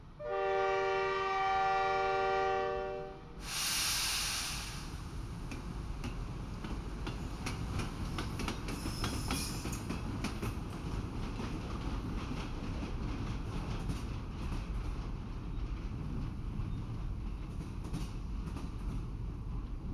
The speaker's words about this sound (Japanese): お客様も乗車されましたし、そろそろ出発いたしましょう。では、癒しの寝台列車バレンタイン急行。発車いたします。